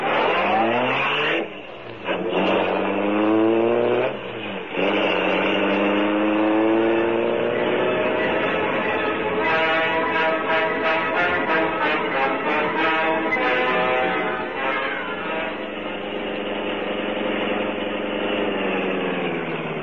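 A car engine revs loudly, rising and falling through several bursts, then settles into a steady drone as the vehicle pulls away and keeps driving.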